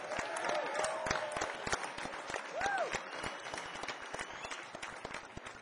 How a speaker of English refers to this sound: It's really good to see you, and we know it's tricky circumstances, so please give yourself a big round of applause for being here tonight.